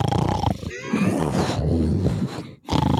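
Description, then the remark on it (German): A voice imitates loud snoring: a long, rough, rattling rasp lasting over two seconds, a brief pause, then another snorting breath begins. “Wir hören Schnarchen.”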